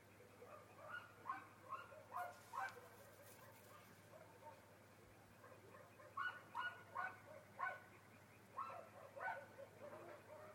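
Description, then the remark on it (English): Frogs croaking at night around 9 o'clock, short throaty calls repeating in uneven clusters, with pauses between bursts over a steady low background hum. “And then that sound in the background, which isn't a dog, are frogs.”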